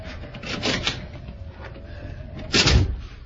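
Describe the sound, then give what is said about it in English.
The unlocked door of a house is opened with a creaking, rubbing wooden scrape, followed by a louder clunk or thump near the end; no talking. “Here's a door. It's only unlocked. Oh, it is.”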